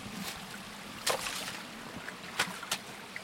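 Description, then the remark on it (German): Someone wades through a shallow stream in a forest, stepping onto stones where the streambed is firm: a steady rush of flowing water with a few sharp splashes and sloshes, roughly three footfalls at an uneven pace. No voices. “Da, wo Steine sind, kann man drauf treten, da ist fest, da ist immer fest.”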